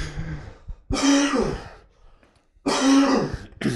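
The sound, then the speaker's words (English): Two loud coughs with a raspy, throat-clearing quality, nearly identical in shape, separated by a short quiet gap of about a second and a half. “Those coughs were exact. They were exact mirrors of each other.”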